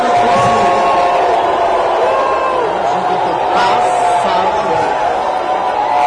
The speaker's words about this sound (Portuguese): Um político que nunca se envolveu em maracutaia, sendo vaiado pelos que estavam lá nesse centro de convenções, no Teatro Guararapes, sendo vaiado por pessoas que pedem um Lula livre, né?